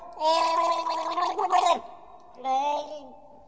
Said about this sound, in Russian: Не видит царь потопления, и воды нигде нету, а видит отставной солдат, тонет, захлебывается, и ртом воздух поверху хватает.